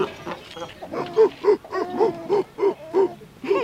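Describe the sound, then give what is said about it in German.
Seals barking in a rapid, steady series of short honking calls, about eight in a row, clear, with a faint murmur of background noise. “Na ja, das sind die Robben oder Seehunde, nicht?”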